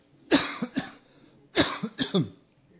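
Two fairly loud bouts of coughing from a person getting over a cough, each a sharp hack followed by a couple of quicker rough coughs, with a short pause between the bouts and no talking.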